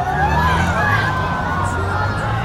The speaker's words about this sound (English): I remember the scream of the crowd saying, no, as if they couldn't conceive such a thing.